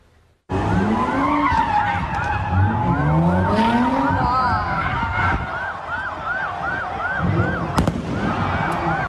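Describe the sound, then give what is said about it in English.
Loud, chaotic street noise at a street takeover on a busy intersection in Philadelphia, with hundreds of vehicles and people: tires screeching in repeated arcs as cars do donuts, sharp bangs of fireworks popping, and sirens wailing throughout, with crowd voices faintly underneath. “Cars did donuts while hundreds of people took to the streets, lighting fires, throwing fireworks, jumping on cars.”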